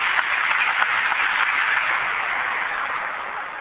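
An audience applauds, a dense, steady wash of many hands clapping that holds its level for several seconds with no voices over it.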